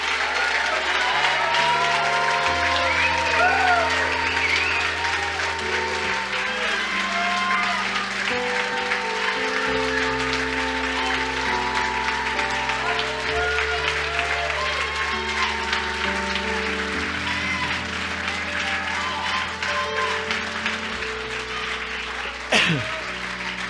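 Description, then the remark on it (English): An audience claps and cheers steadily for over twenty seconds, whoops rising above dense applause while sustained organ chords shift underneath, ending with one sharp clap-like burst. “Y'all better make some noise in this room.”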